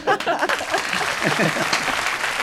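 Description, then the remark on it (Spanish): An audience claps steadily, a dense, continuous patter of many hands at a fairly loud level, with some voices mixed into the applause throughout. “Un aplauso para todos, por favor.”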